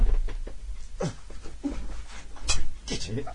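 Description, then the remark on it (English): A dog at the door whines and yelps to be let in, with several short, pitch-bending cries spread across a few seconds and faint muffled voices and background noise underneath. “Hang on, the dog wants to come in.”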